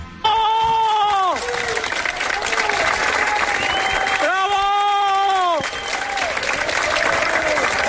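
applause

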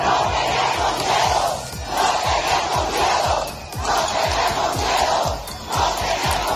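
protest crowd shouting

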